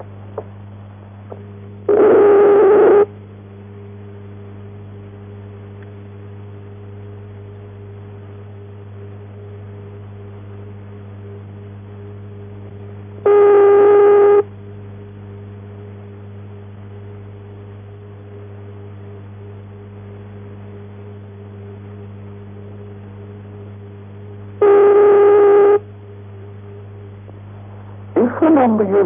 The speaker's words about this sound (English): Western Germany, you may alternatively hear the following ringing tone.